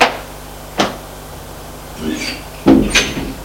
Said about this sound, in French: Frappe à la porte. Entrez. Elle entre.